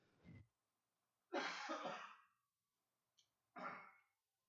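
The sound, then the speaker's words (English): A short series of harsh coughs and throat-clearing bursts, three main hacks with a brief catch between them, separated by quiet pauses and with no talking. “I'm going to mute for a second and try to cough it out.”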